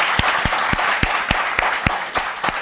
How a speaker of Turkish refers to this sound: Ay helal olsun. Bir alkış daha hak yani.